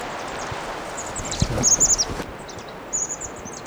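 crossbill calls

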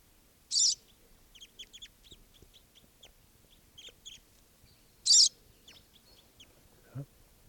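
crossbill flock calling

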